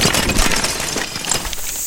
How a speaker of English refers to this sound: Then they heard a frantic whistle and a splintering crash.